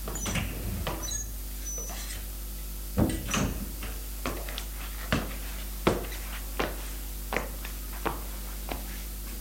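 A bedroom door is eased open quietly as someone leaves the bedroom trying not to make noise, with a series of soft clicks and light knocks spaced through the hush, faint.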